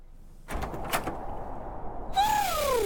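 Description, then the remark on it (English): A door is unlatched with a few sharp clicks and rattles, then swings open with a drawn-out, descending creak of the hinges, fairly loud, with no talking. It is opened to let in a person waiting outside in freezing winter weather, about 4 degrees. “Let me in. It's me. Bro, you know who it is.”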